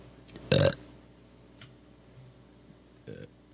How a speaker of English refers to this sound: You make yourself burp?